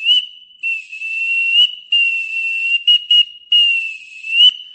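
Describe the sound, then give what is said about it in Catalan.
A traditional clay whistle blown in a steady, slightly wavering tone, broken into several long blasts and a couple of short chirps, fairly loud with no voices. “Potser, algun dia no gaire llunyà, per atraure vents favorables com es feia antany, haurem de fer sonar els xiulells.”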